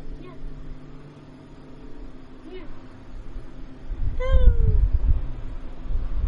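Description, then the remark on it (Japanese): A cat named Nanchan gives one clear, drawn-out meow near the end, sliding downward in pitch, over a low background rumble; a couple of fainter meow-like calls come earlier. “僕らの鳴き声しか入らんかったね。 嘘。今最後入ってる。”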